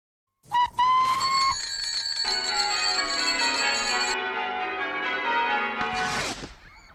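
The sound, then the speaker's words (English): Bells ring loudly and continuously with sustained metallic tones layered over each other, joined by a high whistling pitch, forming a bright clanging wash that fades out at the end. “Bells and whistles go off.”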